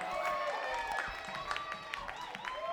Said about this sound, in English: How about we give a nice round of applause to the horns one more time.